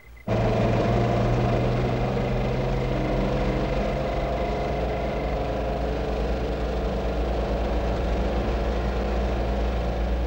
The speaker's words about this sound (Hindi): हमारा ट्रक वापस क्यों आ रहा है?